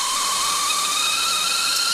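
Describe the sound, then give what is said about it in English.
A kettle whistles steadily and loudly, a sustained shrill multi-tone shriek riding over a hissing rush of steam, with no pauses and no voices. “calling the kettle whack. That's full on. I believe they're referring to this sound.”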